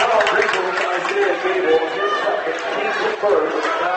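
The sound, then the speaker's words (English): A large crowd of Sidney fans at a basketball game gives Bronx cheers against Greenville, jeering in a steady, loud wash of voices lasting the full stretch, with mocking shouts and raspberry-like noises blending into a continuous roar. “Bronx cheers again from the Sidney crowd.”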